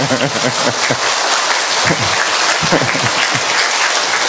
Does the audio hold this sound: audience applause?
yes